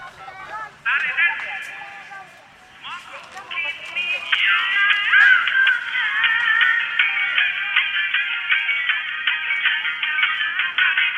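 A telephone rings on an outgoing call, a steady, tinny melodic ringback heard through a narrow phone line, continuing without pause for around eleven seconds.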